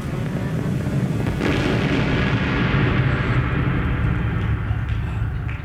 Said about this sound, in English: But as the earth continues to vibrate, another joins it, and then another, and now a rock, and then a boulder, and soon it's a full-scale roaring landslide crashing towards the gorge below!